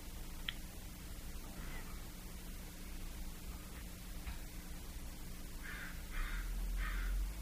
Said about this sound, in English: like the crow.